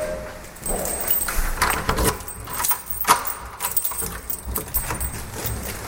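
A bunch of keys jangles and clinks close by in irregular bursts, with soft handling sounds and faint background noise, as a home-care nurse on a patient visit in St. Gallen brings a key into a residential block a little after 9 in the morning.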